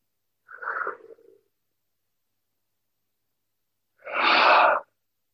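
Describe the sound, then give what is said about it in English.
Yawning during a healing invocation, heard as a soft breathy intake followed after a few seconds of silence by a louder, fuller, airy exhale, with no talking. “I'm yawning a lot, which are energetic releases.”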